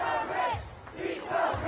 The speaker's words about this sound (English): You're protesters screaming, "Eat the rich," on Rodeo Drive. Eat the rich. By the way, disproportionately white crowd here screaming, "Eat the rich."